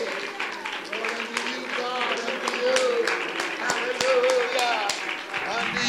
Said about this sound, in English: Would you clap to the Lord? Would you clap to the Lord a praise offering? Would you clap to the Lord a praise offering?